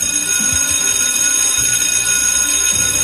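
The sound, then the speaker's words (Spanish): A school bell in Spain, marking the start and end of the school day, rings continuously, a loud, steady metallic clangor filling the whole stretch without pause, with faint low rumbling underneath and no voices. “El timbre que marca cada día el comienzo y el final de cada jornada no volverá a sonar hasta septiembre.”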